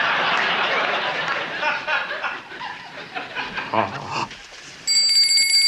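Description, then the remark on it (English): Breathy snickering and chuckling fill most of the moment, then a bright jingle of bells rings out loudly and steadily near the end, sustaining until it cuts off. “Oh, you seem to have rung my bells.”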